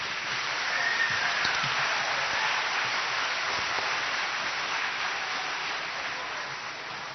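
Sustained audience applause for a fifth grade class at a school program, a dense hiss of many hands clapping at a steady loudness for several seconds before easing slightly toward the end, with no voices over it.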